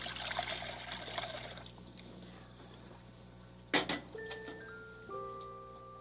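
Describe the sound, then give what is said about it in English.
Water pours steadily into a pot, to be warmed for space food, for a couple of seconds, followed by a short metallic clunk and a few soft electronic beeps. No one speaks. “Warm up some water for the space food.”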